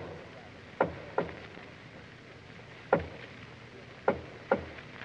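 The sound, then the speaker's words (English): Soft knocks on the door of a palace nursery at 2 o'clock in the morning, five in all: a quick pair, a single rap after a pause, then another quick pair, each short and dull against a quiet background hiss with no voices. “There's a soft rap on the door of the palace nursery.”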